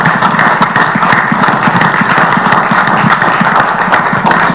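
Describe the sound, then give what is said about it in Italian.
An audience applauds a speaker who has just finished a talk, steadily for several seconds, a dense, even wash of many hands clapping at a fairly loud level, with no voices heard over it. “È stato molto chiaro e l'applauso è meritato.”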